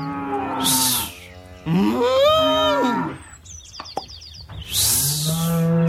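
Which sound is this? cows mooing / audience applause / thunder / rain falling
cows mooing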